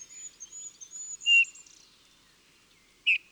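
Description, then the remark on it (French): A Eurasian bullfinch gives two short, plaintive piping notes about two seconds apart, clear, while faint higher birdsong twitters in the background. “Une seule note, répétée plus ou moins régulièrement, à la tonalité un peu mélancolique, avec de temps en temps une note plus grave.”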